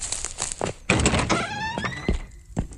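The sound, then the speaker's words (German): A door swings with a squeaky hinge creak, then shuts with a solid thud, followed by a softer knock as it settles in the latch. “Die Türe ins Schloss.”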